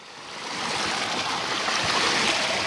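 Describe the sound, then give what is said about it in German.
Water pours steadily from a pipe on a quiet street in southern Kabul, in a continuous, hissing rush that swells in over the first second and then holds fairly loud, with no voices. “An einem Rohr fließt Wasser, Kinder spielen in der Pfütze.”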